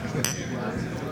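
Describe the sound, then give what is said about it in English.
Glasses of beer, a 4.8% hoppy lager from Lepotskaya's Ordering Chaos, clink together once in a toast, a bright, ringing chime that decays quickly over a steady low background hum. “We're switching up beers. We're moving to Lepotskaya's Ordering Chaos, as you mentioned before.”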